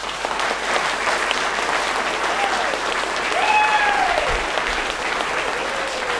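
An audience claps steadily for several seconds, a dense, continuous wash of applause with a few faint whistles or cheers rising above it midway, applauding the participants of a panel debate in Norway.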